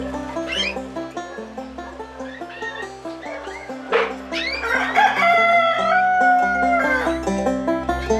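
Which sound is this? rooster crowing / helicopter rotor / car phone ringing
rooster crowing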